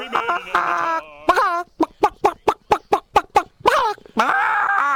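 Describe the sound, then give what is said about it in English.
A radio morning show anchor imitates a chicken, starting with drawn-out squawking calls, then a quick run of about eight rhythmic clucks, and finishing with a loud, rising crow-like squawk. “And of course, a certain morning show anchor who can do a killer chicken.”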